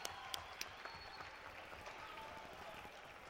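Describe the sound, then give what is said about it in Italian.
An audience of young people applauds steadily for a few seconds, many hands clapping together in a dense, even patter, with a few sharper individual claps standing out at the start. “Quindi grazie ancora e un applauso a voi ragazzi.”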